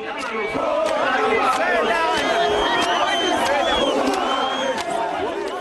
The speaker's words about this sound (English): The men scream that foreigners are stealing their jobs.